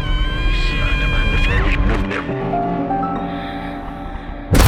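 A cat meows and yowls loudly in long, drawn-out, wavering cries that bend up and down in pitch, continuous, ending with a sudden burst of noise.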